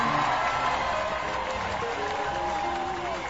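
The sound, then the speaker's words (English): At the opening of the show Lawyers Who Needs Them, a steady roar of crowd cheering mixed with clapping, dense and loud throughout, with a few raised voices poking through the wash of noise. “Oh, that crowd gets bigger every week.”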